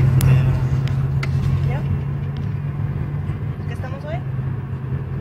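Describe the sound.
A steady low engine drone fills the cabin of a car driving along on a sunny day through a dry, dusty landscape, recorded on a phone. The drone is continuous and fairly loud, with faint indistinct voices and small rattles now and then.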